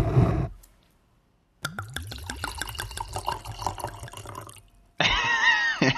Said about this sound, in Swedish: Jo, det är vackert. Det kluckande ljudet av vin, som det första vinet som hälls ner i ett glas.